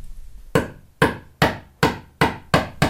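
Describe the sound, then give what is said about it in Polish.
A hammer strikes a nail seven times in a steady rhythm, each sharp, loud blow ringing briefly before the next. No one speaks. “To przybijam. Nie masz młotka.”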